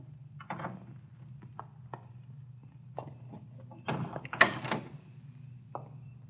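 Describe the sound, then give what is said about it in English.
A car door, on a car stopped around the corner from a filling station, is eased open and shut quietly: a few soft clicks and muffled thumps, then a brief rustle and a gentle latch, over a steady low rumble. “Easy on the door when you get out.”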